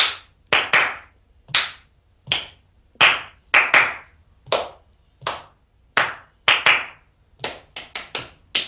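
Sharp hand claps tap out a rhythmic pattern as a pupil claps a chosen rhythm while audiating the words silently, mixing single claps with quick doubles and a fast run of claps near the end, with no voices.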